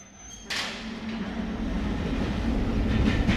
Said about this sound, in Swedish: På den långa tågresan från Calcutta till Madras